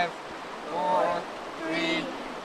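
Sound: flowing river water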